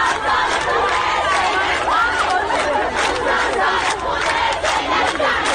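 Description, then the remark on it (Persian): A crowd of schoolgirls marching in the street in Ekbatan township, Tehran, Iran, chants the protest slogan 'Jomhuri-ye Eslami nemikhaim, nemikhaim' together in loud, rhythmic unison. Their high voices form a dense, continuous roar with repeated emphatic beats throughout. “یا مثلا توی شهرک اکباتان تهران دانش آموزای دختر راه افتادن توی خیابون و اینجوری شعار دادن: جمهوری اسلامی نمیخوای نمیخوای، جمهوری اسلامی نمیخوای نمیخوای،”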